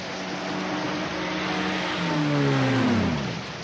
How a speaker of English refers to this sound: Jeep pulls over with the top up.